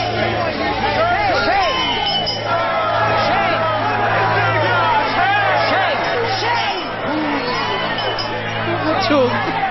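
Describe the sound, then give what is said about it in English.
A dense street crowd shouts and jeers at a man all at once, crying "Shame!", many overlapping voices raised loudly and continuously for the whole stretch, with a low steady hum underneath. “And he walks into this crowd of people in the street.”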